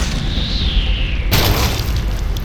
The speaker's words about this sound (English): A hunk of cement the size of a bowling ball drops from above.